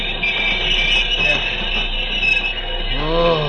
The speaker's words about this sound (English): Train not make the curve. I do not know, Pancho. May leave the track.